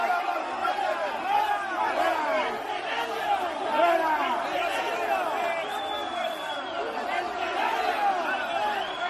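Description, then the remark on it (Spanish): Shareholders shouting at the Valencia Club de Fútbol General Shareholders' Meeting at Mestalla, held behind closed doors, many raised voices overlapping in a steady, unbroken roar of angry yelling and chatter that keeps the same loudness throughout, interrupting president Lei Junchan's attempts to begin her speech. “Bueno, que esos gritos que escuchamos se han apoderado de los primeros 10 minutos en 3 intentos que ha tenido la presidenta Lei Junchan de comenzar”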